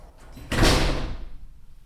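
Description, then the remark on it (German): A front door closes with one solid thump and a brief rattling decay that fades within about a second, with no talking. “Und dann gibt es aber hier noch eine Haustür.”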